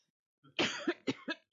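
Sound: coughing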